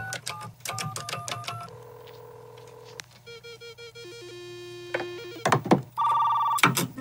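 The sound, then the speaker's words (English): A dial-up modem dials into a school's computer: quick dialing tones, a steady carrier tone, then warbling handshake beeps and bursts of harsh screeching static, loud and mechanical with no voices. “Dialing into the school's computer.”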